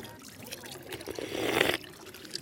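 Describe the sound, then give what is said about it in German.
Water from a drinking fountain pipe runs and splashes in a steady stream, swelling louder for a moment before easing back to a quieter trickle, with no one speaking. “Aber nicht das vom Becken, also, sondern das vom Rohr rauskommt.”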